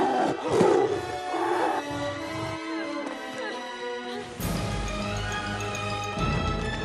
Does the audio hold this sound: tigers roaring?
yes